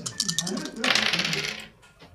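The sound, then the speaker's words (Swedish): Seven dice clatter and rattle across a hard surface in a quick burst of sharp clicks that fade out, with a voice murmuring underneath. “Så att det är 7 tärningar.”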